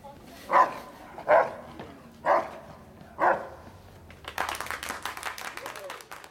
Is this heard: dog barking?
yes